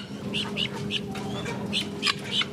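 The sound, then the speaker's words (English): Chickens at the Manhattan Live Chicken Market squawk in a quick run of short, sharp calls over a steady low mechanical hum, the flock moderately loud, on the day of a record snowstorm. “The folks at Manhattan Live Chicken Market say they've lost a few customers since bird flu hit the headlines.”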